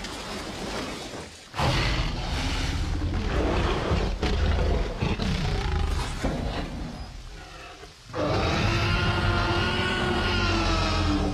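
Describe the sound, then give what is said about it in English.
The famous movie dinosaur roar sound effect, made from sounds of living animals such as tigers, lions, a koala, dolphins and a baby elephant: several long, rumbling, snarling roars separated by brief pauses, ending in a higher, screeching bellow, fairly loud, with no talking. “if you can play that famous roar. This is from the first Jurassic Park”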